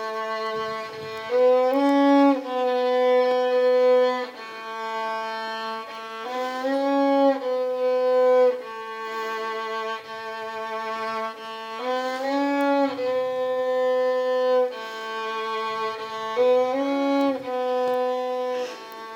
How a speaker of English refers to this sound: Let's see how someone who's spent many years learning to play a violin does it.